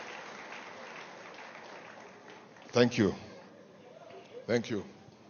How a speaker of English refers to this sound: Please clap your hands for Reverend, please.